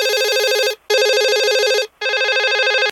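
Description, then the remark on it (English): A telephone rings loudly in long warbling electronic bursts, three in a row separated by short silent pauses, with no one speaking. “Then I get the other phone call.”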